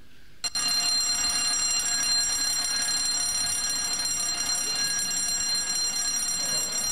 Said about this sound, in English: Fire alarm, yeah.